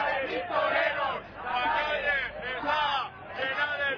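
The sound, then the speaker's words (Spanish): A dense crowd shouts and yells continuously during police charges at Sol, many overlapping voices rising and falling in loud, agitated waves with a few sharper cries breaking through the roar. “Ahí están esas cargas. Son momentos de tensión antes de producirse estas cargas, durante... Los gritos que se oían.”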